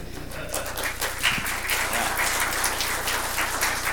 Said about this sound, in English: And so a round of applause for Shadrach, Meshach, and a cappuccino cafe.